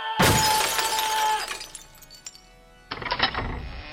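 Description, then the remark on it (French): The glass pane of an office door shatters loudly with a sharp burst, followed by tinkling fragments falling and settling, then a second crash of breaking glass near the end. No one speaks. “Et comment vous faites pour briser la vitre de votre porte de bureau à chaque fois que vous m'appelez ?”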